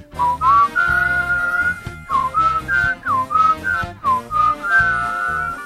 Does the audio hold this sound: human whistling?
yes